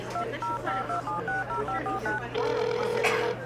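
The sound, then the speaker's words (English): A rapid run of about ten short two-note keypad beeps from a phone being dialed, followed by a steadier tone lasting about a second, over a low background hum. “Wait, where's my phone?”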